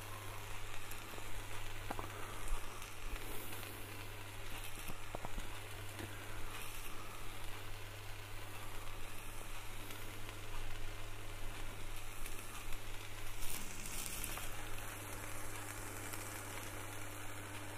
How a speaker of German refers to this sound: Einmal nur gedreht und schon geht hier der Punk ab. Und es fängt an überzukochen. Da ist doch ein Schuss zu viel Wasser, glaube ich, drin.